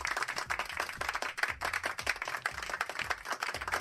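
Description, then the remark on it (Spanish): A burst of applause from a crowd, dense overlapping claps sustained steadily throughout, with no voices standing out. “Está este aplauso y luego el coche, que te toca ya, bueno, un sorteo ya un poco más adelante.”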